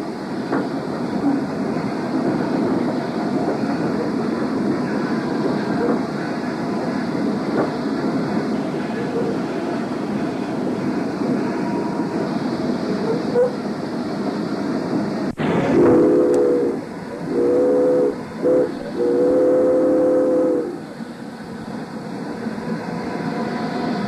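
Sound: train running along rails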